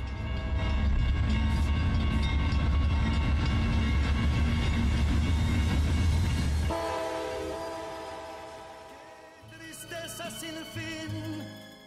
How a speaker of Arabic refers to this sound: ورغم ما كان يدور في نفسي من اضطراب لتفاعل الثقافات واختلافها، فإن القطار أكمل طريقه إلى أنجيه عبر تلك الحقول الخضراء.